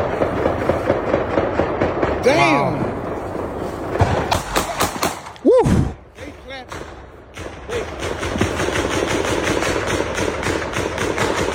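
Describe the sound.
Gunshots fired into the air: several sharp cracks in quick succession, then another short volley, over a steady low rumble, with people exclaiming and talking throughout.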